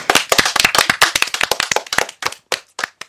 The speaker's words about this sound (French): On les applaudit. Plus fort, on les applaudit.